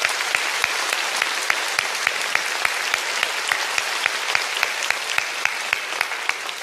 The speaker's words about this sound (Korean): 오늘도 실시간으로 함께하고 있는 우리 구리채플, 필그림하우스 그리고 세계 각국에서 함께 예배하고 계시는 우리 교회 선교사님들 큰 박수로 격려해 주시면 감사하겠습니다.